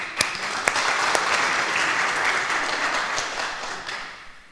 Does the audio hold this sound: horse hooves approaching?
no